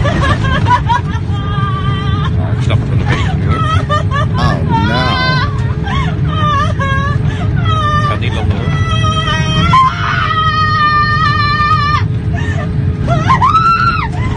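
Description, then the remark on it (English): A woman screams and wails over and over during turbulence as a flight runs into bad weather, her high-pitched cries sliding up and down, above the steady low roar of an airplane cabin and a murmur of other voices. “But for the entire duration they were in the weather, this is what this lady was.”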